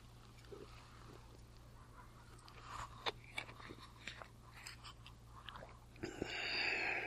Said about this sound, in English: Take a sip here.